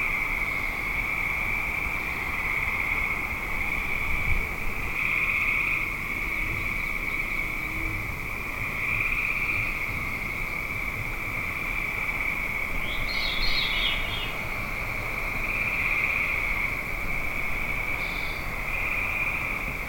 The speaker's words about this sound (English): today we're walking to the edge of a lake in the light of the moon.